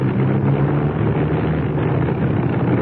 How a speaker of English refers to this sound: I'm not sure. I don't like the sound of that engine. Neither do I.